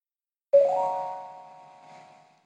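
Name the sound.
doorbell ringing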